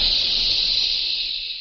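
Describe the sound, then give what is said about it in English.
A steady, loud hiss of a jet of moisture spray in a radio advertisement for Raleigh 903 cigarettes, a continuous bright jet of mist lasting under two seconds and tapering off slightly at the end, with no voices. “That jet of fresh, pure moisture stands for new freshness, new taste in the new, all-new Raleigh 903 cigarette.”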